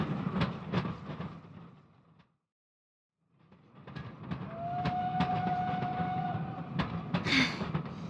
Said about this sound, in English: Run, Flash! Run and stop the train! Okay! Stop! Stop the train!